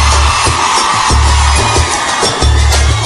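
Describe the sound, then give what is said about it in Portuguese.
A dense crowd of women at a party shouts and cheers loudly and continuously on the performer's call, a high roar of voices over a steady thumping bass beat that pulses underneath. “O negócio é o seguinte, eu quero ouvir o grito da mulherada primeiro.”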